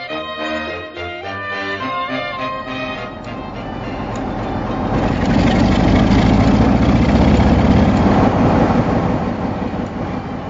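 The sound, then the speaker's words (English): A large train engine with 12-inch bore and 11-inch stroke runs with a steady, throbbing low drone full of tonal harmonics, then swells after a few seconds into a louder, rougher mechanical roar that continues to the end, with no voices. “So how big are the engines in capacity?”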